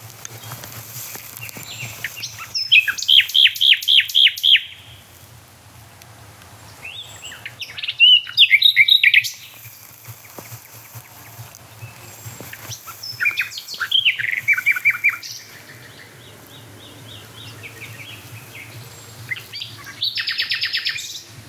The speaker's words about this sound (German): Quasi die Hotspot-Nachtigall hinter mir und vor mir hört man diese da. Also so halb links und dann halb rechts.